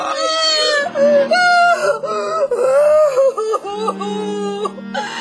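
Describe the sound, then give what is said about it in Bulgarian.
A woman lying on the ground in the street cries and moans loudly and continuously, her wavering sobs rising and falling in long anguished wails without any spoken words. “Излизам си спокойно и изведнъж чувам плач. Ама плач и стонове.”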